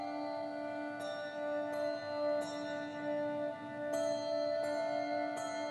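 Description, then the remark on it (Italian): Handbells ring out in separate, unhurried strikes, each chime lingering over a steady sustained string quartet drone that holds underneath throughout. No one speaks. “Però la musica è veramente bellissima, questo suono di questi handbells meravigliosi.”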